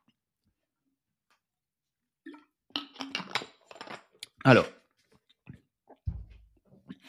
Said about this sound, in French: première gorgée d'eau, j'ai déjà plus d'eau dans la gourde, putain, je vais devoir me lever pour aller en chercher